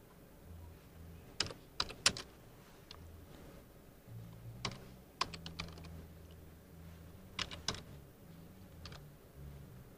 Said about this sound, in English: Okay, so I'm just typing in.